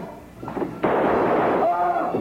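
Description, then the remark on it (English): A firing squad volley: a brief crack, then a loud, abrupt burst of gunfire that rings out as a sustained, rough roar until the end. “Oh, ready, aim, fire!”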